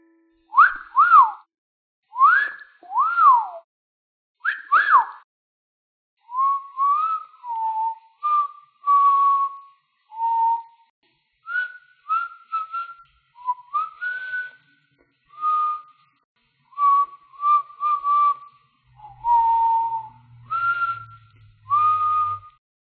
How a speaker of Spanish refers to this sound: ¿Adivinaste el sonido sorpresa? Creo que sí. Es algo que los niños y adultos aprenden a hacer para hacer música con su boca. El sonido sorpresa de hoy fue un silbido.